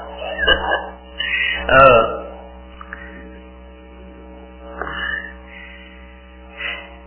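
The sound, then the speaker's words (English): A cat meows several times inside a building, short plaintive calls spaced a few seconds apart, the first ones louder, over a steady low electrical hum with no one talking. “The cat's in the building again.”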